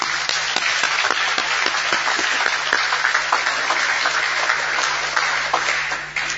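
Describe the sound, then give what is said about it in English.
A crowd applauds the parent organizations at a Codex session, steadily, dense overlapping claps forming a loud, sustained wash of sound with sharper individual claps popping through, holding even for several seconds before tapering at the end. “Please, let's give a good clap for our parent organizations.”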